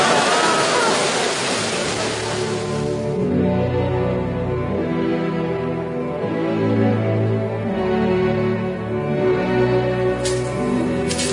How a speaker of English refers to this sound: Are you sure I didn't mention that waterfall? No, you did not mention that waterfall. Or the second waterfall.